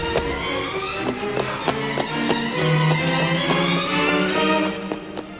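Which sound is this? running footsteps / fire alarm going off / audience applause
running footsteps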